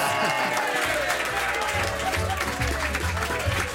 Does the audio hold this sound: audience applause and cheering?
yes